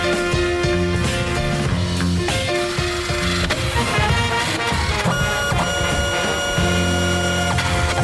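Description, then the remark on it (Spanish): A giant printer that builds houses, used for 100 single-family homes at El Rancho del Lobo in Texas, runs steadily, its motors whining in sustained tones over a dense mechanical rumble and intermittent clatter, loud and unbroken throughout with no voices. “100 viviendas unifamiliares levantadas en algún lugar de Texas con una impresora gigante.”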